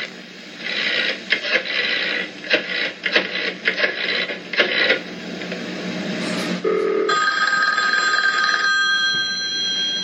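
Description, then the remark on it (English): Bursts of crackling, hissing line static give way to a steady, high electronic telephone ring that holds through the last few seconds, as a call is placed to the Lutzes to warn George and Kathy. No one speaks. “He called the Lutzes to warn George and Kathy.”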